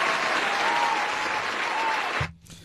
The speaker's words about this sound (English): Oh, wait, double cheer for that. Cheer that shit